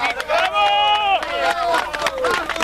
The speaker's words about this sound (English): Rescuers cheering there.